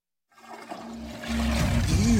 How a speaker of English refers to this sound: Toilet sneeze. Every flush spews bacteria onto surfaces that little Bobby touches and then spreads to the light switch and everywhere else in the house. Yuck.